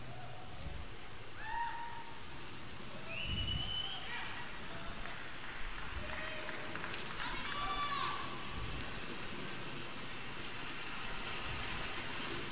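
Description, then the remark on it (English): Steady, dense rain hisses and patters across a boat deck in a video game trailer, continuous throughout, with faint muffled voices and brief tonal sounds drifting over it. “Wow, he sure is walking around that rainy boat.”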